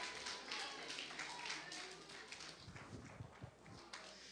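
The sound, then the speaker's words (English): A crowd claps hands in a dense, uneven burst, with scattered voices calling out beneath the steady patter of applause, after being asked to clap their hands and say, God, I want to see new things. “If that's you this morning, clap your hands and say, God, I want to see new things.”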